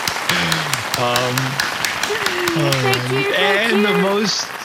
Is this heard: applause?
yes